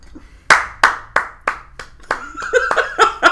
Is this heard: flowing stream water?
no